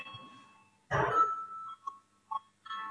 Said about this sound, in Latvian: Lūdzu, zvanu, balsosim par 19.